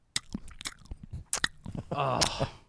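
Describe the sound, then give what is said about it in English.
A person imitates a dog's wet, mouth-smacking chewing: a run of loud lip smacks and sticky clicks at an uneven pace, ending with a short voiced murmur. “I don't like mouth and smacking chewing noises.”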